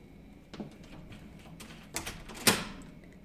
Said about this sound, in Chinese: 等等，你是在锁门吗？你竟然把门反锁了，有点不对劲啊！